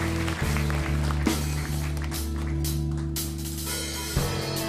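An audience at a church praise service claps for Jesus steadily in a dense, continuous crackle of applause that fills the room, with sustained low organ or keyboard tones ringing underneath throughout.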